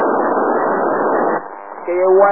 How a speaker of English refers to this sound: As you can hear the buzz on the satellite, the AO-51 went out there. Is in the eclipse period.